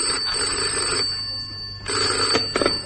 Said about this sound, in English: Next, a cottage in the Welsh valleys. An anxious mother receives a phone call from her daughter, who has left home to go to London.